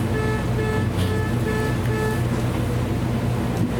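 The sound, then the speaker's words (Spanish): A car horn honks repeatedly outside in a steady on-off rhythm, about twice per second, over constant background noise. No one speaks. “Bueno, las bocinas de ese auto, que la paguen pronto.”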